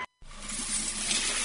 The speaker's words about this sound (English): That's the sound of money being poured down the drain.